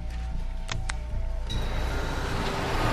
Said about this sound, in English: The terrorists' articulated lorry arrives at what seems to be some kind of shipping terminal.